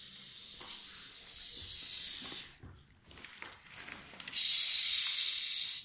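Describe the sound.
A long, steady hissing "sss" like a goose, then a brief pause with soft rustling, followed by a second, louder sustained hiss.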